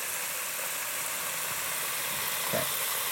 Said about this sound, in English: Ooh, I love to hear that fish frying. Woo, sounds good.